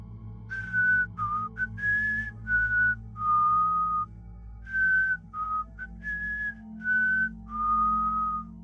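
eerie whistling

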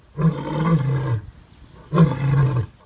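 lion roaring

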